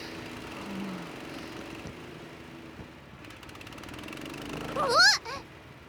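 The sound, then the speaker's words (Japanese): A small gasoline engine, started by pulling the starter cord wound on its pulley, drones loudly and steadily, a rough continuous buzz, with a brief rising whine and swell in loudness near the end. “スターターそのプーリーに巻きつけてある紐を強く引き、もう一度エンジンをかけ直しましょう。”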